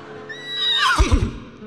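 A single horse whinnies, a high shrill neigh that slides downward and breaks into deep, shuddering snorts and nickers at the end.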